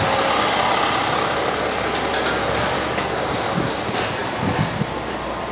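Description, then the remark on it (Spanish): A truck rumbles past with a steady, dense roar of engine and road noise that holds at an even loudness throughout, with no one speaking. “Segundo, que hay un camión.”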